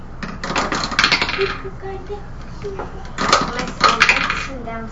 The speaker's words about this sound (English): Rolls dice for me. Okay, so 1, 2, 3. It's rolling the dice to see if I hit.